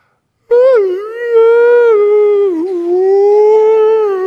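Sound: voice imitating whale song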